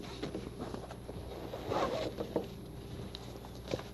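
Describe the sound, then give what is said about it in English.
Paper is handled, with soft, irregular crinkling and rustling that swells briefly in the middle and ends with a few sharper crackles. No one speaks. “This is some other kind of paper.”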